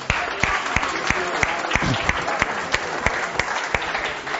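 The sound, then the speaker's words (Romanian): Steady audience applause fills the whole stretch as the men in a church audience applaud their wives: a dense patter of many hands clapping with a few sharper, louder claps standing out at a loose rhythm. No one speaks over it. “Și cred că la acest punct merită ca noi bărbații să le și aplaudăm pentru asta.”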